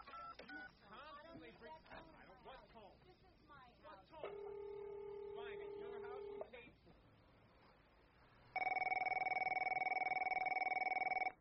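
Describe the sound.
After some talking, a telephone rings with a steady electronic tone lasting about two seconds, then after a pause a second, louder ring sounds for several seconds.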